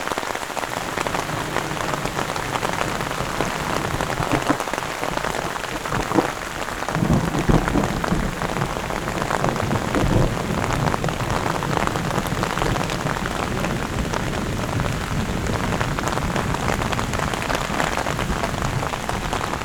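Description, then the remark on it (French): Heavy thunderstorm rain pours down steadily in a mountain forest, with storm clouds covering the high summits: a dense, continuous hiss of drops drumming on surfaces, unbroken for the whole stretch with no voices. “C'est les hauts sommets qui sont totalement envahis par des nuages d'orage.”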